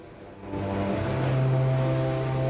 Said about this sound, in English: Travelling quickly over blue water with white crested waves pushing out to the side.